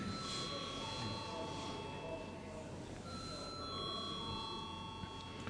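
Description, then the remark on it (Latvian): A steady electric bell rings continuously for several seconds at an even level, its bright metallic tone over a low background murmur, in the chamber of the Latvian parliament, the Saeima, before a vote. “Lūdzu, zvanu.”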